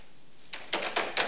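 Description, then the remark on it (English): A few quick bursts of typing as Riggs types on Lorna Cole's computer keyboard in her apartment: crisp clustered clicks arriving in short rhythmic groups after a brief quiet moment, with no voices. “In mock spite, he types on her computer keyboard.”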